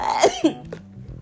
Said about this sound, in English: I'll be glad when this damn cough is gone, when a girl can really get on here and talk to y'all.